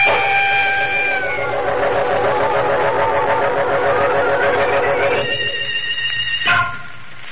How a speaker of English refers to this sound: I hear sirens. It's the police. Oh, the police.